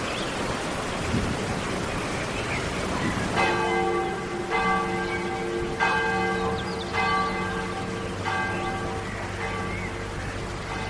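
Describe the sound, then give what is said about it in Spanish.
Church bells ring out in Altso at 1:05 in a steady, repeating peal after a few seconds of noisy, rain-like ambience, with rich harmonic strikes every second or so over continuing background hiss. “Es la 1:05 y en el Altso suenan las campanas.”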